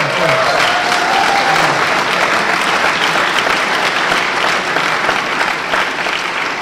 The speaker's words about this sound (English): Scott Ritter, another name that deserves our applause.